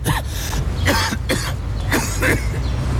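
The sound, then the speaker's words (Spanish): A rapid coughing fit during a dinner date: about five harsh coughs in quick succession with a throaty, phlegmy edge, over a low steady background hum. “Por más historias sin tos, Buxol adulto, indicado para el alivio de la tos con flema.”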